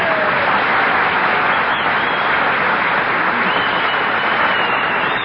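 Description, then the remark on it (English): Steady, loud applause from a crowd greeting Milton Berle, with a few thin whistles rising faintly above the clapping now and then. No one speaks. “Oh, you hear that whistling?”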